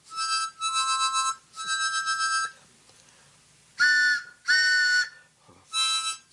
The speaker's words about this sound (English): Oh, who could that be playing the harmonica?